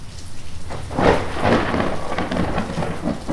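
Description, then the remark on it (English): A rumbling roll of thunder swells after a moment and lingers over steady, dense rainfall pattering down, with no voices present. “A big old rain cloud, and it's coming your way.”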